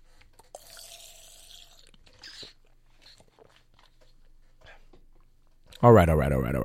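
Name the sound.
drinking water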